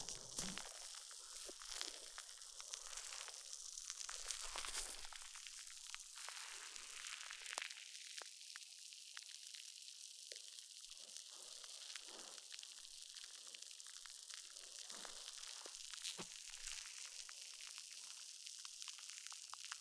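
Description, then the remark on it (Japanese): Continuous fizzing and crackling of foam bubbles as the listener's ears are covered in foam, dense and textured with small popping bursts throughout, no voices present. “なんかご主人様の耳をさ、泡だらけにしてるの面白いんですよね。”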